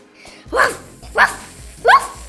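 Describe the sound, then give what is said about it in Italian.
Three sharp dog barks ring out at a steady pace, each a short, loud burst, with brief quiet gaps between them and no talking, from a dog at a veterinary clinic. “Qui mi prendo cura di tanti animaletti, cani, gatti e coniglietti. C'è chi abbaia, c'è chi miagola e chi proprio non vuole entrare.”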